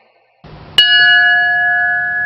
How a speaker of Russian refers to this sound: Скоро этот звон будет раздаваться со всех отдаленных районов города и края. Идею создания передвижной звонницы Хабаровская епархия позаимствовала у своих камчатских коллег. Передвигается эта конструкция на небольшом грузовике.